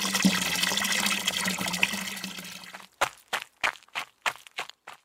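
Water pours steadily into a water jug for about three seconds with a low resonant hum, then stops, followed by a quick series of short, sharp splashing bursts.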